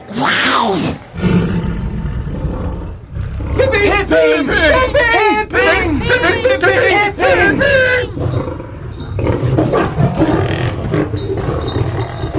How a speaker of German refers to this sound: Ein dampfender Wasserkessel? Eine alte Eisenbahn? Eine Katze faucht. Ja, eine Katze faucht genau so, wenn man sie ärgert. Ja, es hört sich an wie eine Katze. Aber wie eine sehr, sehr große Katze.